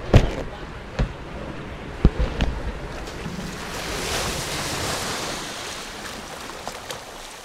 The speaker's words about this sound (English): But there's still whirlpools and churning in this water. I need to kayak to get out of this place. Oh my God, I'm smashing into the side.